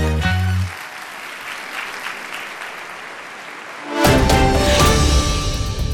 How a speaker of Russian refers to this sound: Это тебе аплодисменты буквально сейчас были? Это были аплодисменты нам